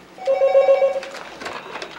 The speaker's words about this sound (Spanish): Cuando va a llamar, el teléfono suena.